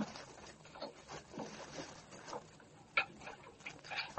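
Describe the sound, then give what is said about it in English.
Small metallic clicks and scrapes of master keys being tried one after another in the door lock of a house, a quiet, irregular jiggling and rattling with no voices. “You have the master keys and weapons?”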